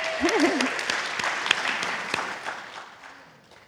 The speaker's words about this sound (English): Keep the clapping going.